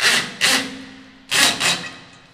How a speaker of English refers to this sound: To power the gear, workers drill in electric panels.